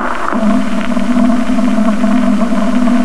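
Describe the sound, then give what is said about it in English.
A strong returning echo signal rises out of a noisy background, a loud, steady low tone with faint higher overtones that holds unbroken for about three seconds. “A strong echo that time.”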